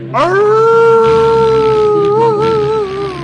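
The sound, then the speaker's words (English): A single long, wolf-like werewolf howl rises sharply, then holds a steady, ringing pitch for about three seconds with a slight waver near the end, loud over a faint hiss. “He never did howl when he was out of, the werewolf. He always howled off screen.”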